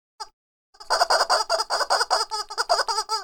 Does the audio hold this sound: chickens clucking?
yes